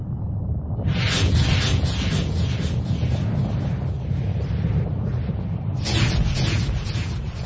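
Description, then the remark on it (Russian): Mortar fire from a mortar fired through an attic dormer window at a factory rumbles in a heavy, continuous low roar. A harsh crackling burst surges in about a second in and another comes near the end. No voices are heard. “— шепчет титулярный советник и открывает огонь.”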